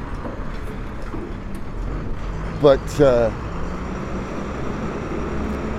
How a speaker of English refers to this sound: Big ass white panel truck making his way in the world.